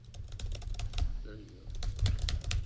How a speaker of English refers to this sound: No, I typed there. Let's type here.